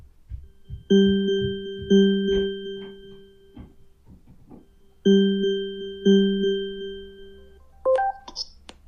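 An outgoing Alexa call rings through an Amazon Echo smart speaker, calling another Echo. It gives two bursts of a steady, buzzy ringback tone, each a pair of long pulses, then a quick bright rising chime as it connects.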